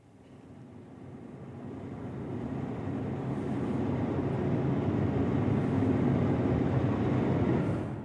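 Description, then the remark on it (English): A deep, continuous roar of rushing water from Niagara Falls, heard from the Canadian side, swelling over the first few seconds and then holding steady and heavy, with no voices. “I went to Niagara Falls, and particularly on the Canadian side, I'm sorry, Americans, but on the Canadian side, it's absolutely breathtaking, and you hear the roar of that mighty waters.”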